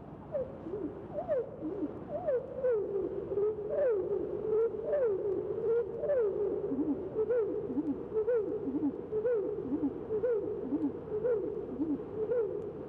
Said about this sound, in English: Other modifications of this theme are entirely different phrases used by this bird may be heard in the following song.